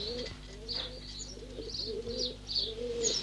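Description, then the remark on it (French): Several pigeons kept by coal miners coo in soft, rolling low calls that overlap continuously, with a few higher chirps mixed in, over a steady low hum, with no voices. “Le pigeon, pour le mineur, c'est quelque chose de doux, de céleste, qui contraste avec la mine et sa dureté.”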